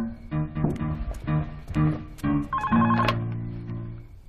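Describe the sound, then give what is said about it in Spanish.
A house telephone rings in a series of short, evenly spaced electronic tone bursts, then a longer sustained tone that slowly fades, clear with no one talking. “Que nadie toque el teléfono.”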